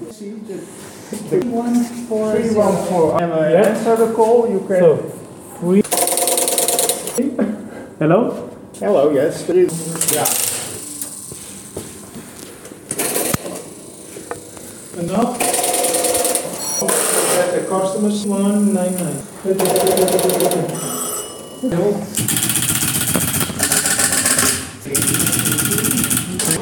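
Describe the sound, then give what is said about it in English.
Rapid mechanical clattering of an old telephone exchange's switching gear at the Howling Telecom Museum in Rotterdam as an automatic operator connects a call, loud bursts of ratcheting and clicking that come and go, interleaved with people talking. “So, we are connected now. That is what you hear.”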